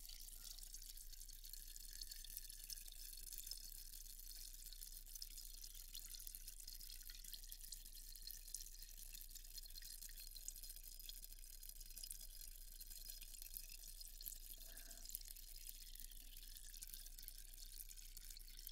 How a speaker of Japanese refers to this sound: 炭酸のシュワシュワ音は安眠効果もありますよ。